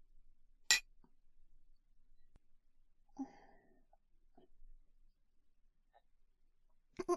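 Glasses clink together in a toast, a sharp, bright tap near the start, then again in a quick double clink at the end, with soft breathy sounds in the quiet between.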